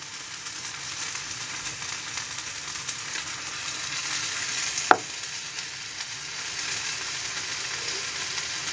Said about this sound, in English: Now, what I'm going to do is I'm just going to pour ever so slightly a little tiny bit of red wine on it. We're going to get a bit of a sizzle, I think.